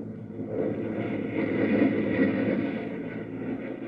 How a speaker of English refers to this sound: Launch a pursuit rocket! The pursuit craft roars into the air.